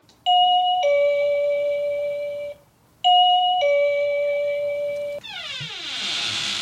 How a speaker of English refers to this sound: has actually just rung the doorbell of my parents' house in Mount Vernon